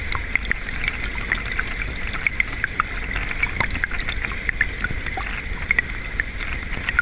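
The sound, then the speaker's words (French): Underwater hydrophone recording from inside a small river: a dense, steady bubbling and gurgling with scattered bright clicks and pops from moving water, continuous throughout, with no voices. “Il s'agissait du son d'une petite rivière enregistrée à l'hydrophone, donc le son provient de l'intérieur de l'eau.”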